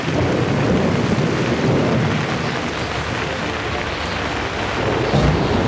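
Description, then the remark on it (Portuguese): A thunderstorm rages at sea around a sailing boat under a sky covered in black clouds, with steady heavy rain and deep, rolling thunder rumbling throughout, swelling louder near the end. No voices, just a dense, continuous wash of storm noise. “Uma tempestade está chegando!”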